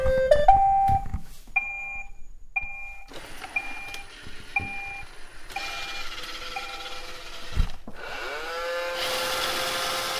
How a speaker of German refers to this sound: Mein Kollege Staubsauger-Roboter findet den Dreck von alleine und fährt alleine durch alle Zimmer. Jetzt überlegt euch mal, wie nah soll denn der Roboter an die Wand fahren? Auf wie viel Zentimeter?